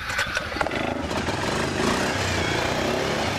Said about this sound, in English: Danderson, silver-haired and blue-eyed, revs up the engine on his brand-new Fire Engine Red two-man ATV. It's freezing outside, but Danderson, known to Berlin's 10,000 residents as simply Mayor Bob, is excited to be at the park.